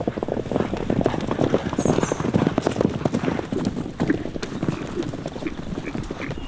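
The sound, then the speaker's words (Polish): Horse hooves clip-clop in a steady rhythm throughout, with many sharp overlapping hoof strikes over a low rumble of outdoor background noise. “Koń to stworzenie, które Pan Bóg nam dał, chyba jedyne ze wszystkich, jakie człowiek sobie potrafił udomowić, które jest jego prawdziwym przyjacielem, a przy tym najpiękniejszym.”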